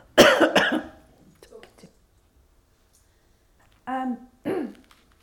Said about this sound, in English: Excuse me. I'm going to cough, I think.